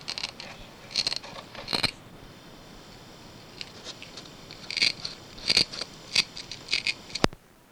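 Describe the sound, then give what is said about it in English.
Velcro on the back of a small stick-on clock for the car rips apart in short, raspy, crackling bursts, first a cluster of three, then a longer series after a pause, ending with a sharp click. No one speaks. “And see, it has Velcro on the back too.”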